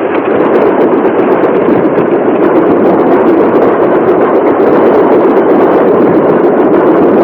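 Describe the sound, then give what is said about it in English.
A steam train rushes along on a long journey down through the mountains with a loud, steady roar and a dense, rhythmic rattling clatter that never lets up over the whole stretch. No voices are heard. “The train rushes on, devouring the miles in its long journey down through the mountains.”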